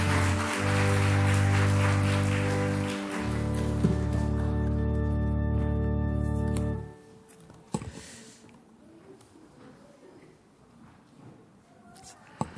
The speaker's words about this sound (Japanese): それでは皆さんもう一度大きな拍手を持って祝福してください。